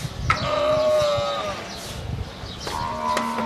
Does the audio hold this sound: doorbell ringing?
no